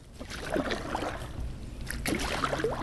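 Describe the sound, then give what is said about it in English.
A kayak paddling through floodwater in a street while surveying flood damage: two bursts of splashing, dripping paddle strokes roughly a second and a half apart, over a steady low rumble of moving water, with no voices. The water reaches nearly to the bottoms of mailboxes, with trash cans, propane tanks and spare lumber floating. “But I took a kayak trip at one point yesterday just to survey the damage, and I recorded a little part of it.”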